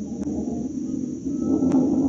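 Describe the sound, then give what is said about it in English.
The jet engine of a U.S. Air Force Scorpion F-89D fighter interceptor, built by Northrop Aircraft, roars steadily as its test pilot prepares to take off, a dense low rumble topped by a thin constant whine, swelling slightly louder toward the end. No voices are heard. “It's the roar of the Scorpion as he prepares to pick it up.”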